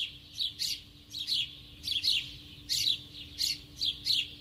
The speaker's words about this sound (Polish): słyszałem wróble, stado wróbli, no bo ja nie mówię o pojedynczych, tylko mówię o takich stadach. To był bardzo charakterystyczny dźwięk na ulicy, wróble ćwierkające w tym pogłosie ulicznym.